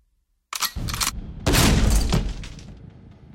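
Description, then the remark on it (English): Rifle shots hammer at a door: a quick burst of sharp cracks, then a heavier blast that rings out into a long, fading rumble. No one speaks. “All right, let's use the rifle with the door.”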